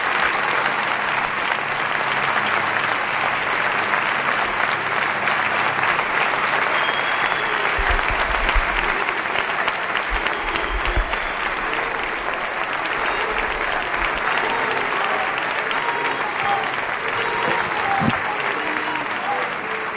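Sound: crowd ovation and applause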